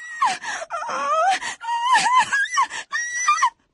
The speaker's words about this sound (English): But when she began to sink, she realized that she was not at all happy, and she began to cry.